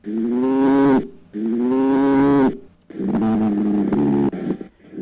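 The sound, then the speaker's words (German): Badgers quarrelling with their neighbours: three loud, drawn-out wailing calls in quick succession, the last one rougher and more broken up, with no talking. “Wenn ein Dachs sich mit seinen Nachbarn streitet, hört sich das so an.”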